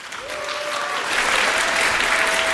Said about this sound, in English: Big applause for Buddy.